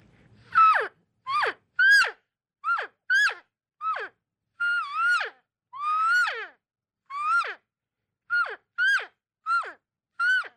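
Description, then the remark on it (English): A series of about fourteen elk cow calls and bugles blown on a game call: short, high, downward-sliding mews, with a few longer, wavering squeals in the middle. No talking. “You know, you don't have to really blow hard on it or anything, but here's just a couple little cow calls with that, and I'll do a couple bugles.”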